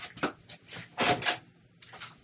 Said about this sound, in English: It's just that I can barely hear him with the door open. So he decided to close the door.